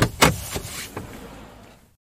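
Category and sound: vehicle, getting into a car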